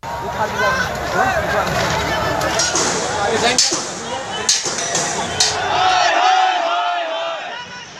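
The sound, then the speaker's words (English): A large protest crowd in Palwal district, Haryana state, India, shouts and chants together in a continuous, loud roar of many voices, with sharp bangs or cracks punctuating the din a few times. “The decision has caused nationwide protests, such as in northern Haryana state's Palwal district, some 50 kilometres south of the capital of New Delhi, where police fired shots into the air to disperse stone-throwing crowds.”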